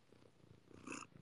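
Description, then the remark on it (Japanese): A female pet cat purrs in a steady, low rumbling rhythm, swelling briefly louder near the end with a soft vocal chirp. No one speaks. “100何人に猫エンジン聞かれて興奮してやがる。”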